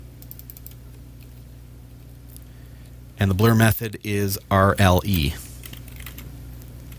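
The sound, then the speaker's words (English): Quick, light clicks of typing on a computer keyboard fill the first few seconds, fairly soft, before a man's voice briefly speaks over a low steady hum. “I'm using the wrong keyboard there, so I've probably zoomed in on the Raspberry Pi.”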